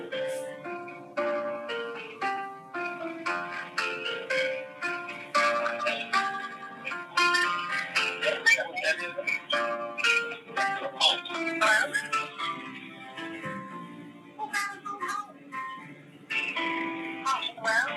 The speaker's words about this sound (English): Could whoever that is playing the holding music please turn your phone off?